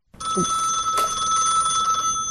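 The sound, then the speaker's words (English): A telephone rings with a steady, bright electronic trill that holds continuously for a couple of seconds, fairly loud, with a brief soft knock near the start and no talking; a phone call in a skit where Peyton Manning acts as the Ravens' offensive coordinator and Eli acts as Lamar Jackson. “Eli's acting like Lamar Jackson if we still lived in a day and age where we were talking on the phone between series.”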